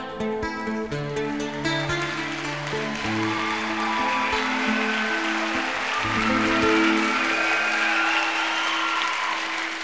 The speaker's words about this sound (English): Give this young man a nice round of applause, huh? Thank you, everybody.